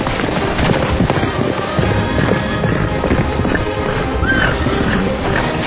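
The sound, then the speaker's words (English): Hooves of two racing horses pound at a full gallop, neck and neck, a dense, rapid, continuous thunder that stays loud throughout, with no voices. “This other rider kept neck and neck as the race went on and on.”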